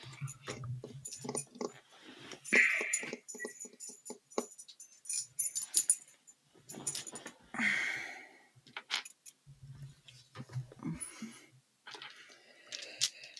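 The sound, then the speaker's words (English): Rummaging: small hard objects clatter and click irregularly, with rustling and brief bursts of handling noise, as someone digs through and grabs a set of dice. “Well, regardless, I can grab a dice set.”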